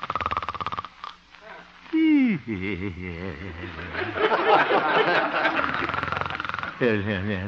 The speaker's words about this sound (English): Looking into the little house on 8th Avenue, we find the town's most popular radio figure, Honest Harold the Homemaker, gently snoring and evidently having a very pleasant dream.